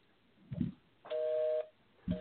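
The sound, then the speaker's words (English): A busy signal on a phone call to the Kerm Radio line: a steady electronic tone sounds for about half a second, pauses, then starts again. Low dull thumps come just before each tone. No one speaks. “Their line is busy.”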